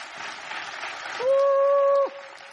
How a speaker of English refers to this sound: Stand to your feet. Did you enjoy it this morning? Give the Lord a hand clap for that.